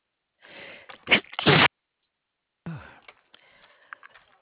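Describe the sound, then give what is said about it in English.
During a customer service phone call, a sharp inhale builds into a loud sneeze, followed after a short pause by quieter sniffing and rustling breath. No one speaks. “Yes, I have to sneeze.”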